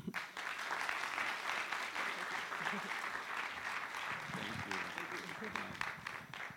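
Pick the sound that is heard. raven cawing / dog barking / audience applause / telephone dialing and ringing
audience applause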